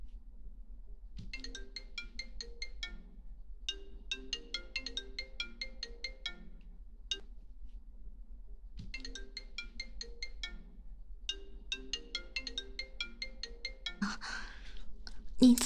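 A mobile phone ringtone plays a bright, repeating electronic melody twice with a short pause between, clear over a low background hum, ending in a brief rustle.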